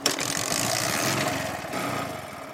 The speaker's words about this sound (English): This motorcycle is called Bajaj Boxer.